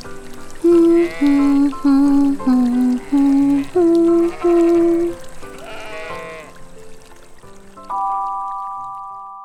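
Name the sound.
sheep bleating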